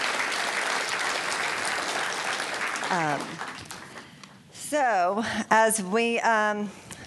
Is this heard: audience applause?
yes